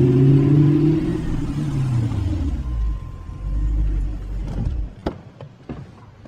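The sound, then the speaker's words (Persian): A car engine rumbles, its pitch sinking as it slows and pulls up at a house, then settles to an idle before a few sharp knocks near the end. No one speaks. “جان با ماشین به خونه مارکوس میرسه.”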